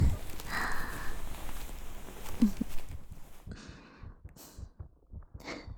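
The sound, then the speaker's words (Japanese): A rapid, pounding heartbeat thumps low and steady, the quick muffled beats clearest in the second half, with soft rustling noise over the start. “ドキドキしてるの分かっただろ？”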